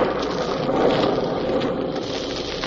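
Steady, dense rainfall hisses evenly throughout, moderately loud, with a soft low rumble beneath it and no voices.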